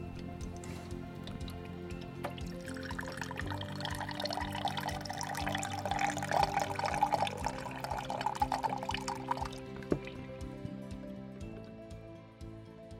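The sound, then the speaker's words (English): Filtered water pours steadily from the tap of a big filter container into a cup for several seconds, a continuous splashing trickle with a rising, filling tone, moderately loud, with no one speaking. “All right, finally get a cup, turn off the tap, and get some filtered water.”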